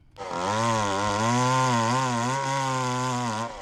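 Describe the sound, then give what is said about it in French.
A chainsaw engine runs loud for a few seconds, a steady buzzing drone whose pitch wavers slightly as the throttle shifts, with no voices. “C'est une tronçonneuse, mais il va se passer quelque chose avec la tronçonneuse.”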